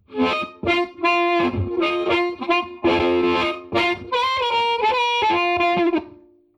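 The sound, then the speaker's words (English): A distorted electric guitar plays a loud, gritty riff of chords and sustained notes through an amp model of a low-wattage amplifier sold at Sears in the 1960s, set to a short, tight small-room reverb, with no one talking. “And with a small room reverb.”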